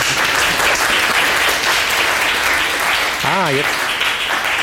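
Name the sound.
audience applause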